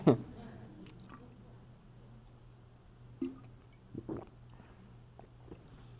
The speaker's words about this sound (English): Now, one of the things I like to recommend is drinking water, and I should demonstrate from time to time.